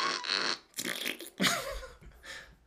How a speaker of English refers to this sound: Here's how it sounds. You knew that one. It just, let's listen to that again. Get the fart at the end.